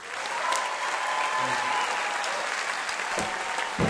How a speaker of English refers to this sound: Thank you. Don't stop clapping your hands. Come on, y'all. We're gonna do it like we're doing it in New Orleans.